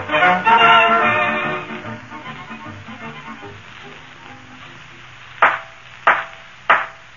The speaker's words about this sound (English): Listen well to the judge's gavel, McGee. It's the only knock that ain't a boot.